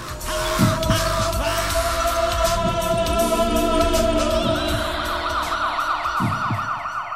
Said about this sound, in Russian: Площадку недостройки разбудили сирены скорых и милицейских машин.